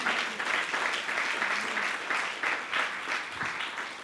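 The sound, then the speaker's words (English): A crowd applauds steadily, dense overlapping clapping at a fairly loud, even level with no pause, an audience giving a round of applause for Jesus during a sermon. “He ran through the wall of sin and death 2,000 years ago that we right now give him a round of applause.”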